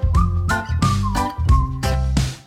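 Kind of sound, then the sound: sound effect, whistled jingle tune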